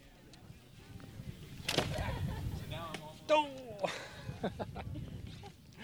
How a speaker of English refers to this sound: That was a kid hurling a device called an atlatl. It's kind of like hurling an arrow with a stick. Which was a weapon for warfare and hunting that was used originally in the old world, starting about 30,000 years ago.